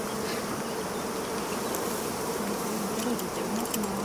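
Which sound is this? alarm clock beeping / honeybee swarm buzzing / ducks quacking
honeybee swarm buzzing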